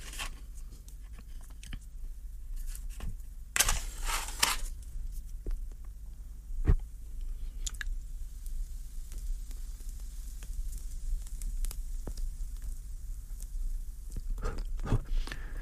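Quiet puffing on a short cigar stub: a few soft breathy draws and exhales over faint crackling and sizzling of burning tobacco, with occasional small clicks and no talking.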